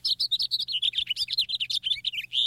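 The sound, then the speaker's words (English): A house finch sings a fast, warbling run of high, varied notes, bright and continuous, ending on a buzzier note. No voices, just a faint low hum beneath. “Here's a house finch, more melodic and with a buzzy note near the end.”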